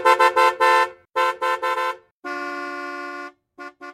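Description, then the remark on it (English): A car horn honks loudly: a quick run of four toots, then three more, one long sustained blast, and two final short beeps, with no talking. “President Harding declared that America was in the age of what he called the motor car.”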